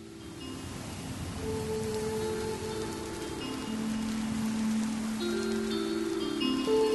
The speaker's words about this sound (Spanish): La lluvia parece el eco de mi desolación.